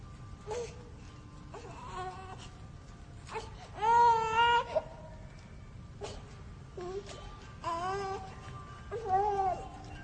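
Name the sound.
baby crying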